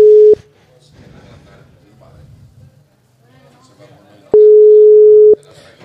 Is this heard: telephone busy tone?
yes